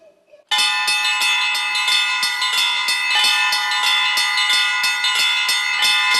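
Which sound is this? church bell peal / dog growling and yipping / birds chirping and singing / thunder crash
church bell peal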